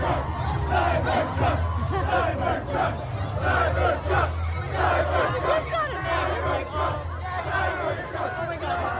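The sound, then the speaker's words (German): A crowd of young people celebrating a car cheers and shouts nonstop, many overlapping voices whooping and yelling at a steady, loud level, with a low hum running underneath. “Ja, ganz normale Bilder hier von Jugendlichen, die ein Auto feiern.”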